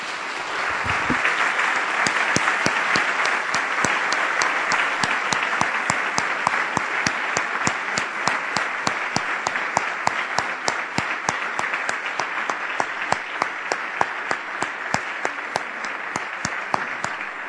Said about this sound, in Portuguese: As palmas são para o Senhor. E nós podemos aplaudi-lo.